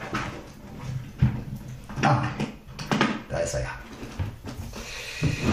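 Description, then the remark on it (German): Continuous clatter of small objects being shuffled and knocked around inside a cluttered drawer as someone searches for a camera adapter, with irregular bursts of rattling and a person murmuring faintly in between. “Wo der hier ist. So viel Kram in der Schublade.”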